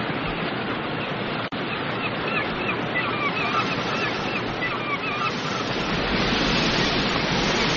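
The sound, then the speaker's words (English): Steady, loud rushing water fills the scene without a break, a broad roar like surf or a torrent, with faint honking bird calls drifting through the middle and a sharp click near the start. “Water too. Must be part of the power system. The ocean tides are turned into energy somehow.”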